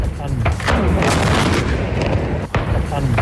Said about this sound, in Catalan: Són explosions registrades en una base militar grega i els crits després de la gent afectada pels focs que hi ha a aquest país. Les deflagracions a la base han obligat a evacuar més de 100 persones i han provocat danys materials